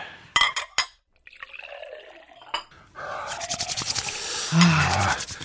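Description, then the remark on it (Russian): A few sharp clinks of crockery, then hot water from a just-boiled kettle is poured into a cup in a steady stream that gurgles and rises in pitch as it fills. “Чайник вскипел, там в буфете коробка с пакетиками. Возьми себе и мне.”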